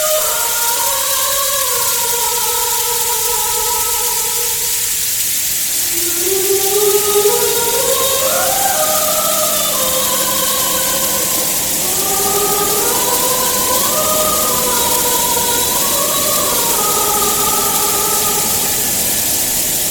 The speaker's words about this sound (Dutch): We gaan gewoon even luisteren naar hoe één trein naar beneden valt.